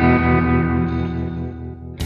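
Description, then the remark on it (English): A steady, distorted electronic drone of layered humming tones with a faint warbling sweep, like a strange radio signal, cut off at the end by a short, sharp burst of static hiss. “There's no reason that Venus shouldn't radiate impulses. I don't mean the static. Can't you hear it? The other thing?”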